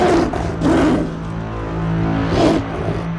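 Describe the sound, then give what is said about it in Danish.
A powerful tiger roars in the jungle in deep, rumbling bursts, two swelling peaks with a sustained growl between them, loud with no voices present. “Og det væs blev omgående kraftigt fuldt op af et mægtigt tigerbrøl inde i junglen.”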